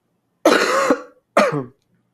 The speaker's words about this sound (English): Sorry, he's coughing.